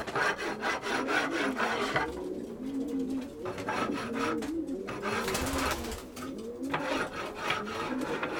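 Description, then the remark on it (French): Repeated rasping scrapes drag across the wooden floor of a racing-pigeon loft in steady strokes as the keeper scrapes it clean, while pigeons coo softly in the background. “Donc tous les jours, je gratte.”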